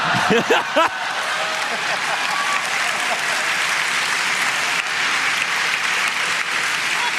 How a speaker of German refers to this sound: Und das ist ein Applaus.